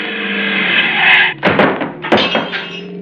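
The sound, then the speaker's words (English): A steady car engine roar as the driver guns it is cut off by a heavy thunk as the car strikes a man walking in the street, knocking him 100 feet and smashing the car's front, followed by a rattling burst of crunching, scraping debris as the car keeps rolling, loud. “We knocked him 100 feet, Slater. But the front of the car's all smashed.”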